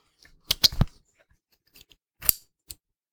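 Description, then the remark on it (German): A quick cluster of sharp ratcheting clicks from a shoe's click-dial closure being opened and closed as a foot goes in, a pause, then a few more scattered clicks and a short ratchet burst, no talking. “Klicksystem auf, Fuß rein, Klicksystem zu.”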